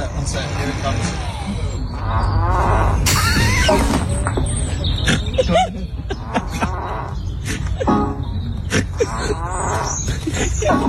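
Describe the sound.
A car's external speaker blares a buzzy fart sound effect, loud, over a low rumbling engine, outside Sir Elton John's house, with people talking and laughing around it outdoors.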